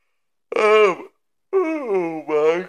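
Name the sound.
long yawn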